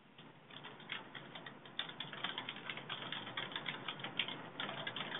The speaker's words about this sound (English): I hear more furious typing.